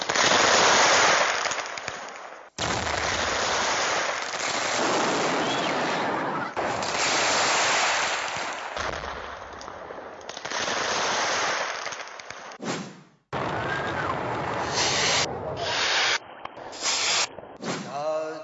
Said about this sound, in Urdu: Philippines میں سالے نو کی رات آتش بازی کے باعث 2 افراد ہلاک, 600 زخمی.